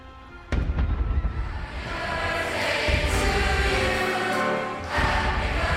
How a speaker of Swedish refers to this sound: Den 23 december 2023 ljuder 21 skottsalvor genom Stockholm. Försvarsmakten skjuter salut.